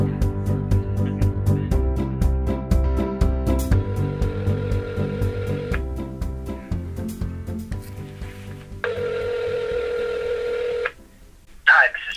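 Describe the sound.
Cell phone dialing tones over a speakerphone in a library: a rapid run of short beeps, then longer steady tones that repeat after a pause, sounding thin and tinny.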